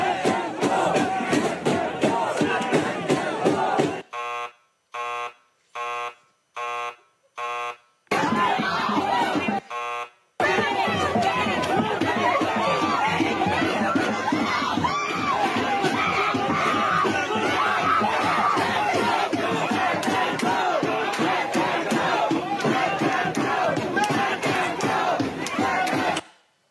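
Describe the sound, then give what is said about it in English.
A protester screams over a loud, shouting crowd during a University of Michigan graduation commencement. A run of five short, evenly spaced buzzer-like blasts cuts in early, then the dense crowd roar resumes and carries on steadily. “Listen to him screaming.”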